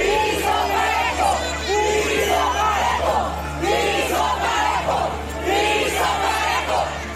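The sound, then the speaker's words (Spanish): A crowd of protesters chants slogans in loud, rhythmic unison, the many voices rising and falling in repeated bursts, continuous throughout; they shout at Sheinbaum that they want a level playing field ('piso parejo') as she arrives at the Morena National Council meeting on a Sunday. “Este domingo, cuando llegó Sheinbaum al lugar de la reunión del Consejo Nacional de Morena, un grupo de manifestantes le gritó que querían piso parejo.”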